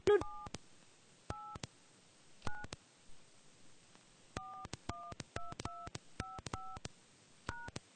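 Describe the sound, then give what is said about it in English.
A series of telephone keypad tones as a 10-digit account number is punched in for a conference call line, short dual-pitched beeps in uneven bursts with brief pauses between, clear with no voices. “Please dial your 10-digit account number.”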